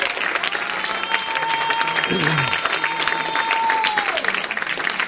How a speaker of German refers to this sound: Gott ist ein guter Gott. Wir können ihm mal Applaus geben. Halleluja.